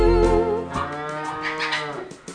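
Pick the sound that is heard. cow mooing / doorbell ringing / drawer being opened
cow mooing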